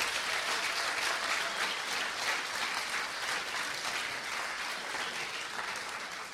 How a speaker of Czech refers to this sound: Skupina dětí tady od nás, nebo děti, oni by mi dali, oni jsou od 10 do 15, čili skupina mladých lidí tady od nás církve včera bodovala, byli druzí ze 14 na biblické stezce, takže prosím potlesk pro ně.